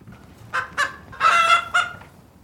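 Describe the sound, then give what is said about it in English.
Chickens clucking: two short clucks, then a longer drawn-out squawk and one more cluck, fairly loud against faint background noise, with no talking. “And it would definitely help these chickens.”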